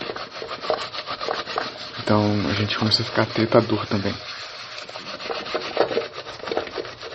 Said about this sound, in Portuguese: Eu acho que dá pra perceber que eu tô lavando louça, né?